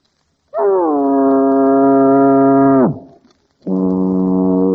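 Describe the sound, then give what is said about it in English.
A voice imitates a foghorn with two loud, low, buzzing blasts: a long steady one that sags downward in pitch at the end, then after a brief pause a second blast begins. “I feel a foghorn coming on. Okay, folks, a foghorn.”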